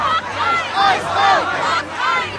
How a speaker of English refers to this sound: A small crowd, some filming, demand the federal agents leave.